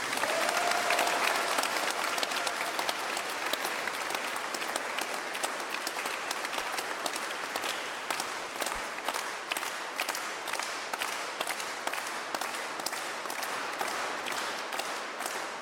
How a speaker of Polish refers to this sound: Jeszcze raz wielkie brawa dla tych, którzy to zrobią.